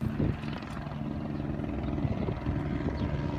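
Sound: police helicopter flying overhead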